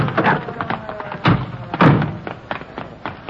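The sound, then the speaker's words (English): A stuck car door is wrenched at to get a man out, with two heavy metallic thuds about half a second apart amid smaller knocks and rattles, loud. “Okay, that door's stuck.”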